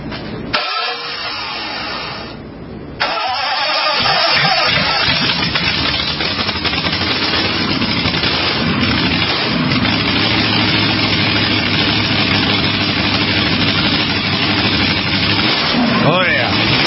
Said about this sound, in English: The sound of the exhaust. The flames coming out of the pipes. 500 miles.